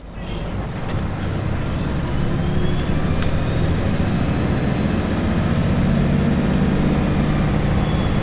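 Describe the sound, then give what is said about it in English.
Steady low engine rumble and road noise from inside a moving public transit bus, a continuous dense drone with faint higher rattles, constant in loudness and with no talking. “Christus Vincit semi-live on the public transit bus.”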